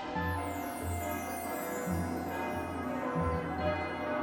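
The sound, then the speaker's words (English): Huge tower bells of Barnhart Swan's School of Magic, Fighting, and Dance in Kingstown peal in overlapping, sustained strikes, their deep hum and shimmering overtones filling the space continuously with a dense, reverberant wash of ringing. “There is the monumentous sound of giant bells ringing. This is the bell at the tower of Barnhart Swan's School of Magic, Fighting, and Dance, which is found in Kingstown, a few days' journey from Wintersmith.”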